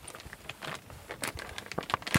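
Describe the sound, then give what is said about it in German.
Crinkling and rustling of a plastic bag holding smell test pens during a patient's medical examination, a series of irregular crackles and scrapes with no voices. “am Anfang, das war so eine Plastiktüte mit Riechstiften, also Geruchsstiften.”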